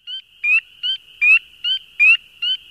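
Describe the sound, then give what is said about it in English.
A spring peeper frog gives a rapid series of seven sharp, high, piercing peeps in a steady rhythm, each short and bird-like, loud over a faint constant background. “Their call sounds like a sharp, piercing bird-like peep, repeated rapidly about once per second.”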